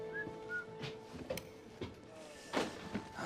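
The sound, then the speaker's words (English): A faint, scraping metallic slide as a man shoves a row of lockers aside at a room's far wall, then soft knocks and the creak of a hidden door opening to a small, private room, all fairly quiet over a low steady hum. “Reaching the room's far wall, he shoves a row of lockers to one side, revealing a hidden door. He opens it with a cocky smirk to reveal a small, private room.”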